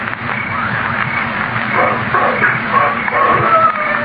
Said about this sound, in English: There it is. Wolf howl.